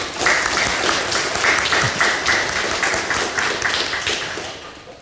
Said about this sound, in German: Ich denke, das ist einen kurzen Applaus wert.